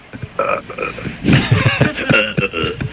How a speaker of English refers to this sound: This came out over our airwaves, and you guys tell me what this is. What, play that again? That's a burp, isn't it? So somebody burped on the air. Clear as a bell. And it was on the phone.